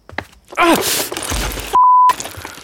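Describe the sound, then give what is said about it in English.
In a California Closets advert, a parent walking across a toy-filled living room for a glass of water steps on a toy with a sharp crunch and lets out a loud, pained groan that trails into noisy rustling, then a steady electronic bleep cuts in briefly. “Take this moment of a parent walking across their toy-filled living room for a glass of water.”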